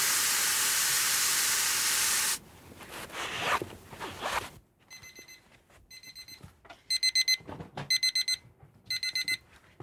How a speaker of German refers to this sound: Die Eieruhr läuft mit. Und in ein paar Minuten klingelt es und dann ist das Teil heiß genug.